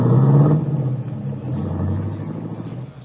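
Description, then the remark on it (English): A limousine's engine rumbles with a low, steady drone, briefly louder at first with a tonal whine, then settling into a smooth hum as it is driven off in town toward the highway. “In town, you go through the motions of buying what you need to repair the broken fuel line, and then wait as the big guy gets into the limousine and is driven off toward the highway.”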